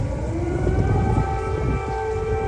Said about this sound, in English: Air raid sirens blaring in Ukraine's capital on Monday. President Joe Biden was in St. Michael's Cathedral with President Volodymyr Zelensky as it happened.